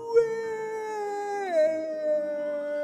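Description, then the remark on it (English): A single long, drawn-out werewolf howl, fairly loud, holding a steady high pitch before sliding down and trailing off mournfully, with no talking. “Howled the werewolf, and ZZ, once the masked Azenger, knelt down to the ground, feeling absolutely spent.”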